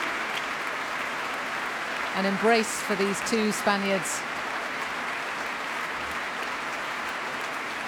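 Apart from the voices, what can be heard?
audience applause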